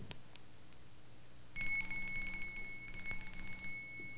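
A faint, tinkling bell rings with a thin, high, steady tone for about two seconds, with a few light clicks and taps around it. No one speaks.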